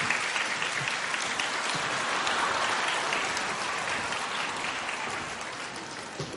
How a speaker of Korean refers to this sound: 이 시간에는 우리 손양원 목사님의 태양의 후예가 아니라 손양원 목사님의 후예들이 직접 출연하셔서 이 곡을 한번 특성으로 찬양을 올리겠습니다. 박수로 한번 맞아주시기 바랍니다.